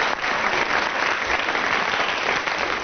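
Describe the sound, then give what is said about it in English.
A steady, dense round of audience applause for Graham Garden, many hands clapping at once in a continuous crackling wash that holds at an even loudness throughout, with no voices heard. “Right, round of applause for Graham Garden.”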